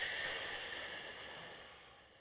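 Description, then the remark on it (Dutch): A long, steady exhale blown out through the mouth during a breathing exercise, emptying the lungs; a breathy hiss that fades gradually over about two seconds as the lungs empty, with no talking. “Blaas maar leeg.”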